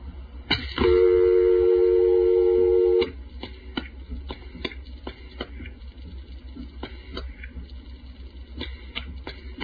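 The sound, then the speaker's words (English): A loud, steady later-style dial tone from a crossbar 5 telephone exchange, heard on a Western Electric 302 telephone, hums for about two seconds, then cuts off, followed by scattered mechanical clicks and clacks of switching equipment over a low background rumble. “Notice the later styled dial tone used on the crossbar 5.”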